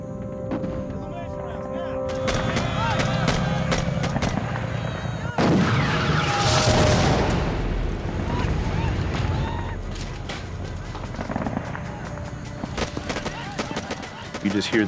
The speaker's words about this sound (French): On entendait les cris de douleur des soldats, enterrés aussitôt par le bruit des canons et des déflagrations. C'était l'enfer, comme celui de Dante.